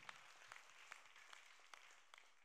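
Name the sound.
audience clapping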